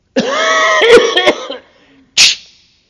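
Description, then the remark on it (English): A loud, drawn-out, theatrical cough performed by a voice, harsh and rasping with a few choppy breaks, then a brief pause and one short, sharp burst. “And what he was doing was he was coughing.”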